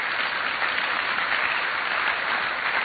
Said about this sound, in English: But in fact, Christ has risen. Praise the Lord. And now Paul, amen, you can clap about that. It's worth clapping about.